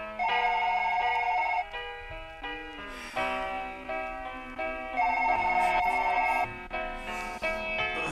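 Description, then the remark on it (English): A telephone rings with a bright electronic warble, the trilling tone repeating in bursts over sustained melodic chords, fairly loud with no voices. “Somebody pick up the phone.”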